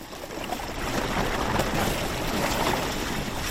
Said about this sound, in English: I'm on a fishing boat in a fjord in Greenland. And we're nudging our way through icebergs.